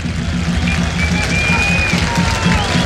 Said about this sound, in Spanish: Sale Leandro Hernández en Colo Colo. Aplausos. Aplausos del respetable. Que bien se escucha.